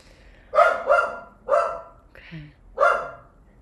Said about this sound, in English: All the animals are making themselves known today. That's Roxy barking in the background. Which means there's a dog across the street.